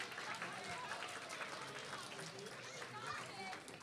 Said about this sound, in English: I think we need to give a big round of applause to the students once more. They did a fantastic job.